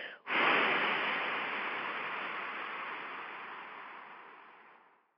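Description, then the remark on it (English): A single long, forceful exhale during a guided breathing exercise, forcing the air out after a deep, full inhale: a broad rushing hiss that starts strong after a brief catch and slowly fades over about five seconds, with no talking. “And then exhale again, and this time force it out.”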